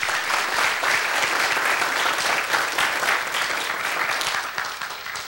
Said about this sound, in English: It's their first time ever in Markham. Ever. So we need to give them a big round of applause like you can.